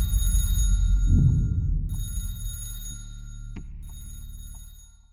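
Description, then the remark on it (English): A telephone rings late at night as Kenneth Arnold and E.J. Smith are getting ready for bed, in bright, steady high-pitched bursts separated by short pauses, over a low, rumbling drone that fades slightly toward the end. “Late that night, just as Kenneth Arnold and E.J. Smith were getting ready for bed, the phone rang.”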